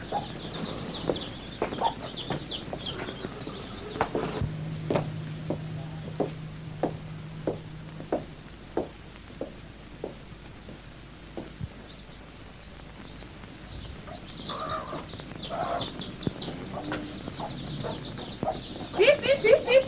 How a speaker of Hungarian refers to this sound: Hát mit csinálsz? Etetem a csirkéket.